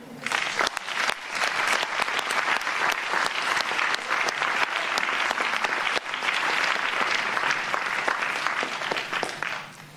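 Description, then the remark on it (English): Sustained audience applause for a member of the Executive Committee fills the room, a dense, steady clatter of many hands clapping for about ten seconds at full volume, with no talking over it. “And I would also like to thank again all the members of the Executive Committee, and a big round of applause in particular”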